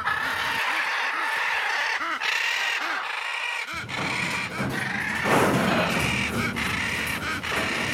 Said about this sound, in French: Donc là, on est dans la volière et les perroquets font de l'exercice en montant et descendant sur leur cage.